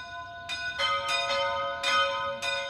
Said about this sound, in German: Wir wissen nicht, was vor 4000 Jahren tatsächlich für Zeremonien an jenem Ort gefeiert wurden, an dem heute die Glocken der Altöttinger Gnadenkapelle über der schwarzen Madonna läuten.